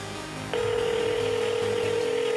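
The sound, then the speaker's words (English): A steady electronic phone tone switches on after a brief moment and holds unbroken to the end, loud, over a low background music beat. “Damn, you don't see me calling your motherfucking phone, bitch.”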